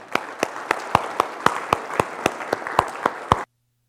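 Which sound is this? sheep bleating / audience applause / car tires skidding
audience applause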